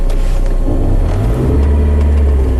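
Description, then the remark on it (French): A taxi, driven by a driver of Congolese origin, drives through the streets of Tampere, Finland, with a steady, loud low engine rumble and road noise, the engine note shifting slightly midway; no one speaks. “Ainsi, les taxis. Pauline Curtet est montée dans la voiture d'un chauffeur d'origine congolaise qui lui a confié son ressenti.”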